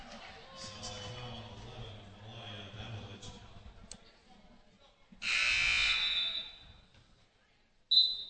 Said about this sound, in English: I'm not sure why we stopped there. The ball was inbounded, and then the buzzer sounded for a sub.